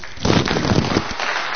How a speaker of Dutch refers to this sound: En dus de solisten komen nog even naar voren en die krijgen nog even een bloemetje. En daarna hebben we toch graag een daverend applaus voor ze.